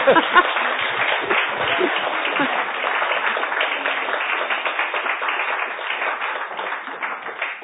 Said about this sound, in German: Herzlichen Dank für diesen sehr interessanten Vortrag. Weiß ich nicht, Applaus, oder? Ja.